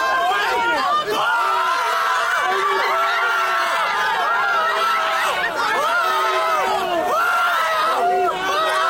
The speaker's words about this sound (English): When the verdict is announced, crowds outside the courthouse go wild. Supporters spray baby oil at each other. Observers with different opinions get in shouting matches.